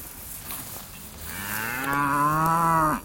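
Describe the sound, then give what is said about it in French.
A long, drawn-out moo from Bazadaise cattle, cows with young calves born at the end of winter, swells up and holds steady before cutting off, loud, with a second bovine voice overlapping. No one speaks over it. “Avec tous les petits veaux, donc ça c'est les derniers qui sont nés en fin d'hiver.”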